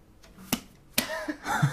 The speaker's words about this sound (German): Hat man hoffentlich gehört. Aua, gut, ich ins Auge gepatscht.